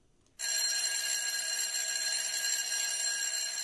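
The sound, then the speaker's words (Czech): A school bell rings continuously, marking the end of classes for primary and secondary school pupils, starting abruptly after a brief quiet moment and holding a loud, steady, bright metallic clang without pause until the end. “Ovo zvono označilo je završetak nastave za učenike osnovnih i srednjih škola.”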